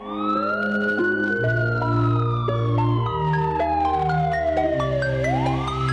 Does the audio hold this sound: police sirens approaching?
yes